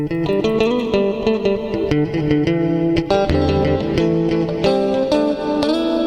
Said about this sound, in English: And we can try it with the glorious long reverb.